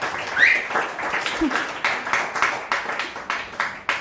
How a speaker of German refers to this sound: Einmal bitte Applaus.